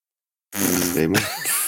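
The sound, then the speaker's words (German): A voice imitates a deer with one blown, sputtering "pfff" that lasts about a second, starting buzzy and lip-trilled before trailing into a breathy hiss, after a short silence. “Wie macht das Reh? Na, pfff.”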